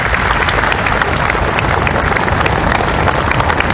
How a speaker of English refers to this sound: Sir Bobby Charlton's life and footballing career is being celebrated in Manchester. This was the sound as his funeral procession made its way past crowds gathered at Old Trafford.